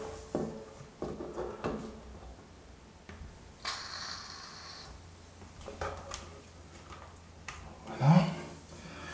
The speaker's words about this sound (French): Maintenant que ça c'est fait, on va mettre un petit coup de dégrippant au niveau des gonds.